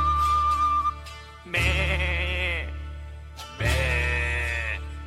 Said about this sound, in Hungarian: Bé, szomorú a birka, mert üres az irka, azért béget, azért sírni, mivel fogja teleírni.